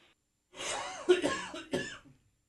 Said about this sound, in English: I'm not coughing for comedic effect. I'm coughing because I had to cough.